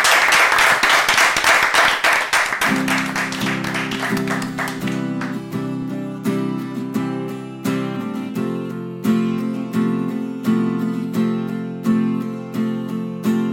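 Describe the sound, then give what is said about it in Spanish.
A burst of loud, dense audience applause welcoming a live music performance opens, then music with steady low sustained tones and regular percussive hits comes in, the clapping thinning out beneath it. No one speaks. “Un fuerte aplauso”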